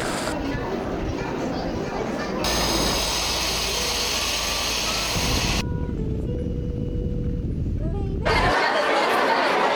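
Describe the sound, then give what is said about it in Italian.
Inside a moving metro train, a steady rumble and rattling carriage noise fill the space while passengers chatter indistinctly, the roar swelling and shifting as the train runs. “Metro sounds.”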